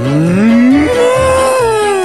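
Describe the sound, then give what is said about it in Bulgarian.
A single loud cow moo, rising in pitch then holding a long drawn-out tone, clear with no talking over it. “Да знаеш как е крава на европейски.”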